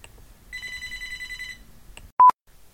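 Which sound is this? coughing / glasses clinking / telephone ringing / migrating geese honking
telephone ringing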